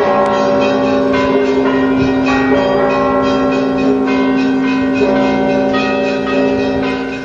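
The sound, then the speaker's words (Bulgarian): Church bells ring a solemn ceremonial peal marking Bulgaria's national holiday on 3 March, accompanied by a 21-gun salute. They ring continuously and loudly, their overlapping strikes forming a dense, sustained peal with strong ringing tones, without any talking. “Отбелязването на националният празник бе придружено с 21 топовни салюта и с тържествен камбанен звън.”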